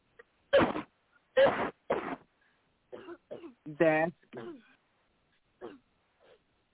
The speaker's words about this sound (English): In the name of Jesus, take another deep breath and cough from your gut.